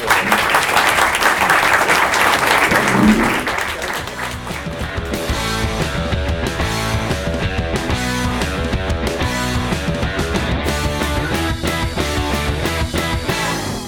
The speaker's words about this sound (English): So thank you all for asking questions, and apologies for cutting you off. And a big round of applause for people on the panel. Thank you, guys. Thank you.